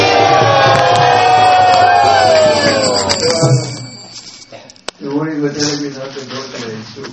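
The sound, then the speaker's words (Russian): A crowd shouts together loudly in a dense, overlapping roar of voices for about three seconds, then it breaks off and a single person starts speaking. “И тогда они еще громче крикнули.”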